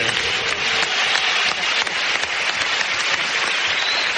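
Steady audience applause for a guest fills the whole span, a dense wash of many hands clapping at once, loud, with no voices breaking through.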